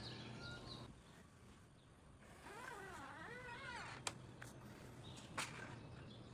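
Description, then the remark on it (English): A cat gives a single drawn-out, wavering meow at moderate volume over a steady low background hum, followed by a couple of sharp clicks. “My little kitty. What's up? How you doing?”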